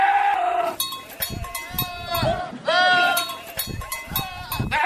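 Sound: goat bleating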